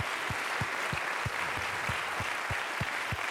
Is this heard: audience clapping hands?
yes